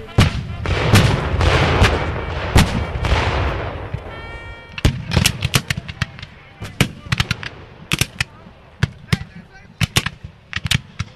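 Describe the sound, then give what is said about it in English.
Cannons fire at a battle reenactment of Confederate General Joe Johnston's forces against William T. Sherman's Federal Army, heavy rumbling booms at first, then a rapid, irregular series of sharp, loud blasts, some overlapping, with no voices heard. “When the cannons start going off, it'll rattle your teeth.”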